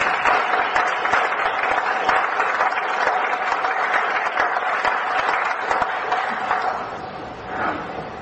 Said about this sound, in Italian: Vice sindaco, l'assessore Angelo Levis. Un applauso, ci sta.